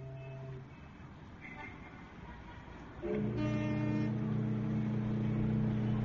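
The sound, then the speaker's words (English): Steady city street traffic noise near a harbor, a continuous wash of passing vehicles, with a heavier engine's droning rumble swelling up and holding for the second half. “In a little while, the traffic will die away, and we will be left with the sounds of the harbor, which I find soothing.”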